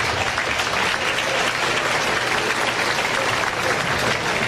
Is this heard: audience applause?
yes